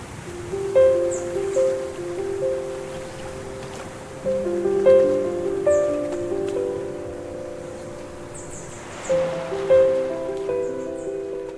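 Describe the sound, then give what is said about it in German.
Gentle, sustained musical tones from a concert on a beach in Thailand at sunset, with many people sitting by the sea, ring out over a steady wash of ocean waves, with faint bird chirps flickering high in the background. No one speaks. “also man hört ja die Vögel im Hintergrund, das Meer, dann auch noch diese wunderschönen Klänge”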